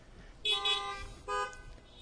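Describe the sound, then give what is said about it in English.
Two car horn honks from veterans at a Memorial Day observance sound in quick succession, a longer blast followed by a shorter one, fairly loud and harmonic over a low background rumble. “First, if there are any veterans present, let me hear your car horns, veterans.”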